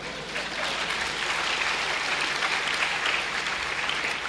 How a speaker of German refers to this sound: Applaus!